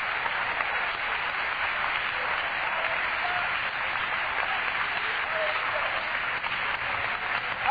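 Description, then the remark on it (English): An audience claps their hands to the Lord in a steady, dense wash of applause that fills the room from start to finish, with no single claps standing out and no talk above it. “If you're glad you got the Holy Ghost, clap your hands to the Lord.”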